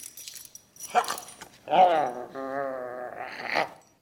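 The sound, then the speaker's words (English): A dog named Senator Something, inside the Capitol, lets out a short bark, then long, wavering whimpers and whiny cries that rise and fall for a few seconds, fairly loud. “There shouldn't be dogs in the Capitol, or kids of congressmen either.”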